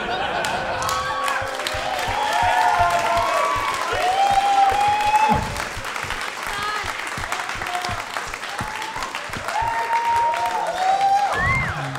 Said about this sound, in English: That is the least deserved applause break I have ever gotten.